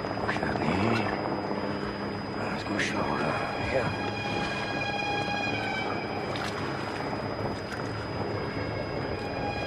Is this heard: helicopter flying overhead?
yes